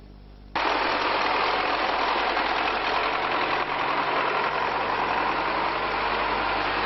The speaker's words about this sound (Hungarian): Szikszón traktor viszi utánfutón az embereket.